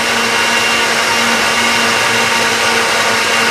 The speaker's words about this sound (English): The picture blurs as the camera swings quickly toward the source of the noise. Sarah zooms on the kitchen where a man uses a blender.